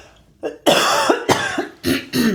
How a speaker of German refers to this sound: Moment, ich muss noch husten.